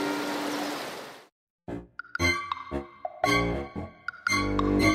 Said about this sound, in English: He saw a large river and decided to swim.